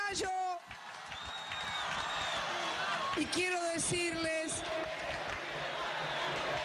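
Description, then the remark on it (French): A large outdoor crowd of young Argentines in the Plaza de Mayo roars continuously, with scattered whoops, shouts and bits of clapping rising out of a dense wash of voices, loud and sustained throughout. “Je veux remercier cette foule de jeunes Argentins qui se sont réappropriés à nouveau la place de mai.”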